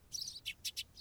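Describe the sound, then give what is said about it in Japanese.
Sparrows chirp in a quick run of short, bright tweets, a longer twittering burst followed by three or four crisp separate chirps, fairly soft, with no voices. “チュンチュンと鳴くスズメの鳴き声も赤子の鳴き声に聞こえてきて仕方なく”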